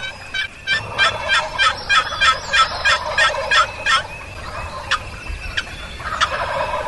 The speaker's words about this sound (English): Turkeys are now gobbling all across the ridge.